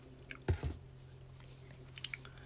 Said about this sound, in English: Take a sip of water here.